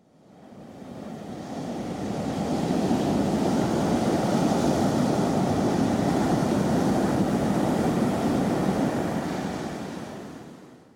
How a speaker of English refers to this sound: And this is the ocean.